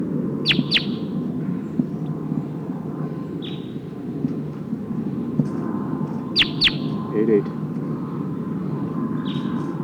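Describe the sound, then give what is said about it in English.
A wild crossbill, which sounds like the Sitkensis type, gives sharp, high chip calls in quick pairs from the trees, repeated a few times, over a steady low rumbling background hum. “Oh, sounds like one of the Sitkensis birds is here in the trees.”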